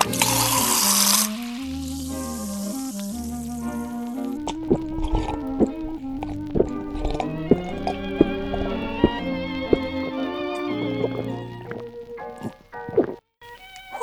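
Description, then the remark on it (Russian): A sharp fizzing hiss as Pepsi soda is opened, then it pours steadily for a few seconds, followed by soft bubbling and small wet gulping sounds as it is drunk, over a faint musical background. “А знаете, что я сейчас сделаю? Угадайте. Выпьем лимонад Пепси.”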